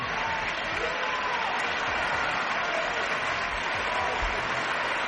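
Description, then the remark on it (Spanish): Thunderous audience ovation for Princess Leonor after her speech in Catalan, in her first act as Princess of Girona, from the 1,400 attendees at a gala: dense, sustained applause, steady and loud throughout, with a broad hiss of clapping and faint cheering mixed in. “Leonor, por cierto, que sorprendía con una intervención en impecable, como acaban de escuchar ustedes, catalán, y que recibió una tronadora ovación de los 1.400 asistentes presentes en esa gala.”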